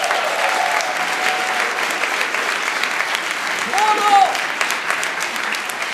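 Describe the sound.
An audience claps steadily for about six seconds, a dense, even patter of many hands. A voice calls out partway through, and a short rising-and-falling whoop cuts through near the end.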